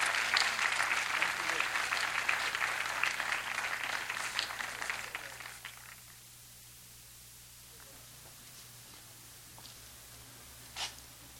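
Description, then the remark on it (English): A crowd claps in a dense burst of applause for about six seconds, then it fades away to a quiet hiss, with one last faint clap near the end. “Let's give Uncle Charlie another little hand.”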